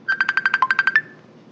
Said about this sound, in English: I'm getting a phone call from Dietza Berger.